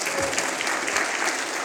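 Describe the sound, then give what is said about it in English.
An audience gives the Lord a hand clap in steady, dense applause, a continuous wash of many overlapping claps at an even, fairly loud level throughout, with no voices standing out. “Come on, give the Lord a hand clap and thank him for this.”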